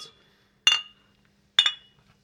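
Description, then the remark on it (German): Glasses clink together in a toast, two bright chimes about a second apart, each leaving a short ringing tail before fading into quiet. No one speaks. “Prost zusammen.”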